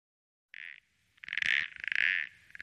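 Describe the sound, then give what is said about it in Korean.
A toad named Tutu croaks: a short buzzing call, a brief pause, then two longer, rapidly pulsing trills that run together, loud and alone with no voices. “동물을 좋아하긴 하지만 양서류와도 교감하게 될 줄이야.”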